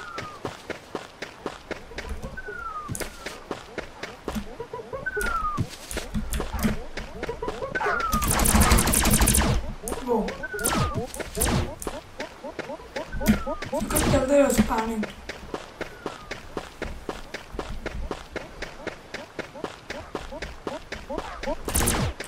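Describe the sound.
Video game gunshots, some fired into the air, ring out as sharp, scattered cracks, with one dense rapid burst partway through, over steady running footsteps on sand and a person talking.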